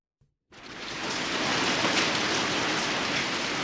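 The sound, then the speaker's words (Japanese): Steady, dense, cold sleety rain pours down at night after a brief quiet start, a continuous hiss of drops that holds at an even level throughout, with no voices. “その日は朝からの雨が夜になって冷たい氷雨となって降り続いていた。”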